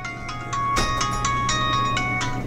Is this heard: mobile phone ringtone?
yes